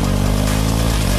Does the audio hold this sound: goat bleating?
no